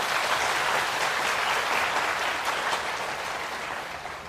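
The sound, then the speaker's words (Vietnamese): A big round of applause from a crowd congratulating young people and students who have just become members of the Buddhist community, dense and sustained clapping at a steady loud level that gradually tapers off toward the end, with no voices. “thầy xin chúc mừng các cháu thanh thiếu niên sinh viên và học sinh vừa chính thức trở thành thành viên của cộng đồng Phật giáo thế giới và thành viên của cộng đồng Giáo hội Phật giáo Việt Nam, cho một tràng vỗ tay thật lớn.”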